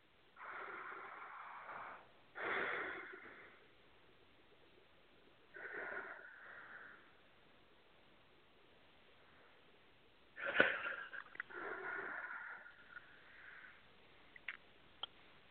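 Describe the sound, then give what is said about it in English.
Three slow, deep breaths, each a long audible inhale followed by a softer exhale, with quiet pauses in between and no talking. “And take three nice deep breaths.”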